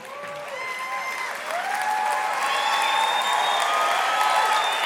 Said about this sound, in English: I knew you would clap.